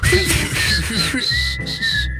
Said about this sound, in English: this is a whistle challenge for …, who struggles with whistling.